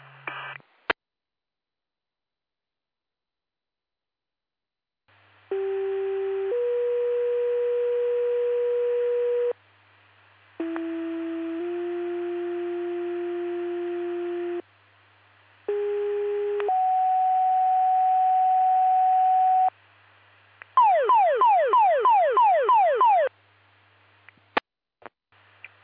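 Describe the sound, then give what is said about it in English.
Fire department pager alert tones in a full still pager test for Utica Fire and EMS, LaSalle, Oglesby, Trigove and Tonica Fire Departments and Peru EMS: several long, steady two-step electronic tones in sequence, then a rapid warbling burst, loud and clear with a faint background hum and clicks at start and end. “Please disregard the tones and reset your pagers.”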